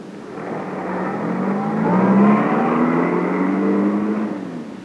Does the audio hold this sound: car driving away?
yes